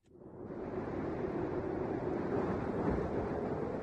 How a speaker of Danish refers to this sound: Kan du høre Alaskas vind suse? Ja. Bare smukt.